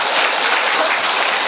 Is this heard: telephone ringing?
no